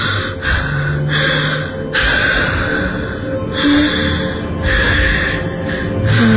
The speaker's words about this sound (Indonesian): Aku memperlambat jalanku, mencoba mengatur nafas.